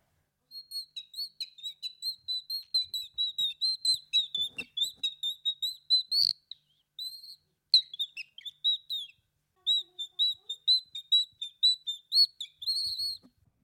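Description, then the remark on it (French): A bird-call whistle imitates nightingale song: rapid, high, bright chirps repeated in quick runs, broken by a few short pauses, played fairly loud with no talking. “Et là, c'était le rossignol.”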